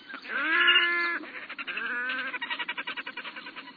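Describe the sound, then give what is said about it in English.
A red-necked grebe calls loudly: two drawn-out, nasal wailing notes, then a fast, rattling trill of rapid pulses that runs to the end. No one speaks. “So why do Alaskans, with disgust in their voices, call this bird the mugger?”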